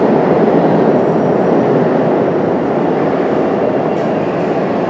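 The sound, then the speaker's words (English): A loud, steady rumble of a train rolling on rails, a dense, continuous roar that holds even throughout with no talking and no distinct clacks or horn. “on our train.”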